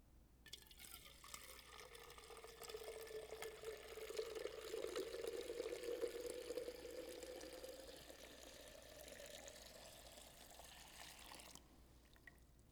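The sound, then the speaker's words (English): Water pours steadily into a container for about eleven seconds, the gurgling stream rising in pitch as the vessel fills, then stopping abruptly. No voices accompany it. “And what if you are simply poured out like this?”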